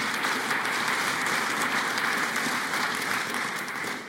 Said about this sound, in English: Amen. Thank you. You can clap for that.